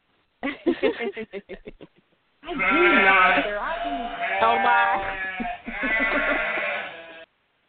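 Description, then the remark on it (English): Several long, quavering, loud sheep bleats sound one after another, preceded by a quick burst of short, choppy vocal sounds. “She spends most of her time talking to sheep.”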